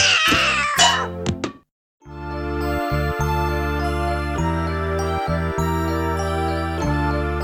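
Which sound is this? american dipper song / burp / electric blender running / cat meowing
cat meowing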